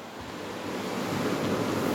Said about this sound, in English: So he and his girlfriend moved out of town for cheaper rent and better views, and they got an apartment by the ocean. Yeah, to the sound of the sea.